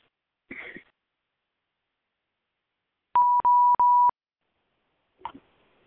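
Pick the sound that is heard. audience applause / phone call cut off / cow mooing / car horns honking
phone call cut off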